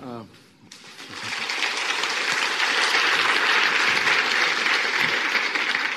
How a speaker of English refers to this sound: Yes, hopefully you give both sides the right amount of applause, because I'm very sensitive to what happens here.